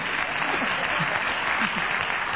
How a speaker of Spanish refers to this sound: A ver, saluden los niños. ¡Saluden con las palmas, niños! ¡Que esto es radio!